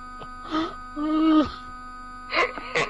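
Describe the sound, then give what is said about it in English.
A frozen Wii game console emits a loud, steady electronic beep, one unbroken buzzing tone held through the whole clip while a voice makes short sounds over it. “This is making the loud beep noise.”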